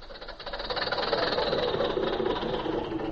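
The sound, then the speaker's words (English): A car motor runs steadily with a dense, rumbling drone and a rapid knocking rattle, holding a fairly loud, even level throughout with no voices. “Just listen to that motor.”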